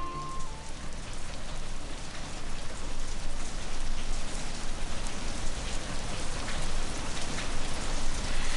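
Steady rain pours down in a dense, continuous hiss, with scattered drops pattering on a surface throughout. It stays fairly loud and even from start to finish, with no voices.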